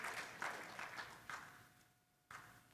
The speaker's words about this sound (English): You never thought that this story was going to start in the beginning of chapter 8 with a death, and at the end we'd be clapping.